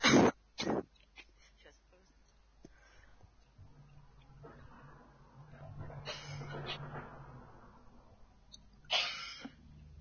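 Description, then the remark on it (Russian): Two sharp, loud coughs burst out, followed by low murmuring and a few more rough coughs later, one strong one near the end. “У меня такая примета, каждый раз, когда мы отыгрываем путешествие, каждый раз я почему-то начинаю кашлять.”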